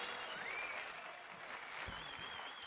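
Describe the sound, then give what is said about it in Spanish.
An audience applauds a woman who has just spoken, a dense wash of many hands clapping at an even, sustained loudness for a few seconds, with a faint whistle-like tone rising above it. “Dale un aplauso como ella se lo merece.”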